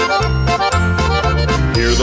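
Bright, bouncy band music with a steady oom-pah bass beat and ringing bells chiming on each accent, loud and full, with no voices.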